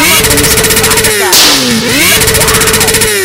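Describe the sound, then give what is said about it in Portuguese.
A loud motorcycle engine revs steadily with a pulsing rumble, its pitch dipping and then climbing back up midway through before holding a high, buzzing drone to the end. “Eu não posso ouvir o ronco de uma moto que a cabeça dele dói.”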